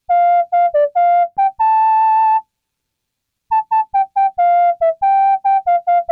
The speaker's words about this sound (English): Digging the MIDI whistle check.